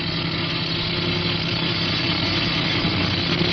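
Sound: truck engine approaching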